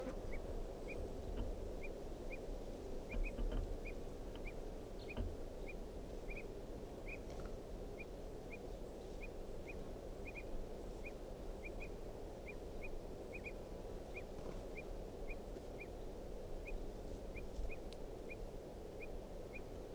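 A wild bird gives a steady series of short, sharp alarm calls, repeated roughly every half second for the whole stretch, over a constant low rumble of outdoor background noise.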